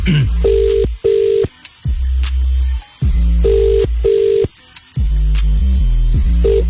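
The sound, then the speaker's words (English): A phone call ringing out to a contest participant: paired ringback tones repeat in a steady double-burst pattern with short gaps, sounding clearly over a low, continuous musical bed. “if I call you right now, you have to answer the phone with Capital Extra, Take Me to …”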